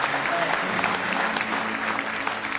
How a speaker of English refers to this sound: Somebody say praise the Lord. Give him one more hand clap of praise if you love him tonight. With all your heart.